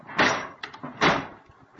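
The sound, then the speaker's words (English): Two heavy, forceful impacts as a door is busted in, about a second apart, loud, with a shorter knock between them and no voices. “You busted it in, boy.”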